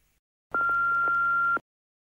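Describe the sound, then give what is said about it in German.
A single steady telephone beep, lasting about a second, sounds loud and clear on its own, with silence before and after, like the tone that precedes a voicemail message. “Jetzt hörst du die erste Nachricht am Telefon.”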